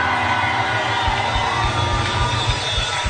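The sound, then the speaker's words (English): A large church audience screams and cheers continuously at high volume when the preacher calls for screaming. It is a dense wall of overlapping voices with low rumbling pulses underneath, sustained for the whole stretch without pause. “I can't hear you scream.”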